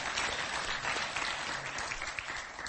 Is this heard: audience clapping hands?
yes